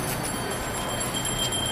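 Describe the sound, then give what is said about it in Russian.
A charity collection hand bell rings repeatedly in a steady rhythm, reminding people to donate to the poor, as they go into a Nordstrom department store, over a constant background hum of a busy space. No one speaks. “Так, тут колокольчик звенит, говорит, не забудьте пожертвовать бедным.”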